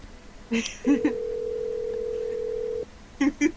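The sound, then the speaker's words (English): A late-night phone call rings through the line with no one picking up: a single long, steady electronic tone lasting about two seconds, framed by short clicks and beeps before and after. “I think she's learning that this time of night, don't answer the phone.”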